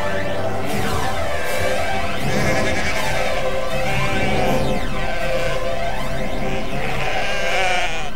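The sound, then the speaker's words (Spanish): A flock of sheep bleats continuously, many overlapping wavering cries blending into a loud, dense chorus with no voices present. “Son estancieros que en las Malvinas tenían ovejas y son los que van a traer la oveja a la Patagonia.”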